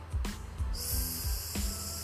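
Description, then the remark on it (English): A voice makes a long, steady hissing 's', demonstrating how the letter S sounds in Spanish, like air escaping from a deflating balloon. It runs fairly loud for over a second over soft low thumps. “It's like when it is a balloon emptying out.”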